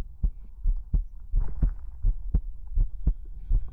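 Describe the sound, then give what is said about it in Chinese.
A steady heartbeat of the narrator's own heart thumps with paired lub-dub pulses, about five beats in under four seconds, deep and muffled over a faint low hum, with no voices. “仔细聆听心跳的复苏之音，这是我对你的祝福。”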